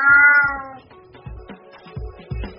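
cat meowing

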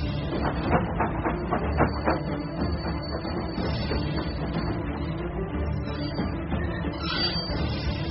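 train on rails

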